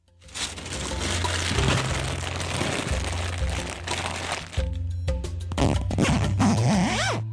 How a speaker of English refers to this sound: Your poor zipper, bro.